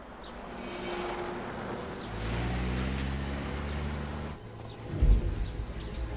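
A car engine idles with a low, steady rumble that holds for a few seconds and then drops away, over a wash of outdoor background noise with a brief thump near the end.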